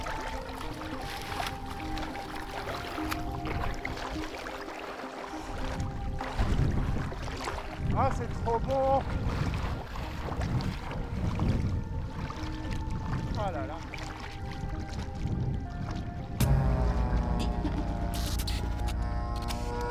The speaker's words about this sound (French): Et voilà les amis, c'est avec cette baignade dans une eau de Loire déjà trop chaude pour la saison, alors que nous ne sommes qu'au début de l'été, que se termine cette conversation